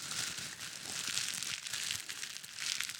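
Leaves rustle steadily in a forest for the whole stretch, a dry, crinkly hiss that swells and fades in soft waves, with no voices.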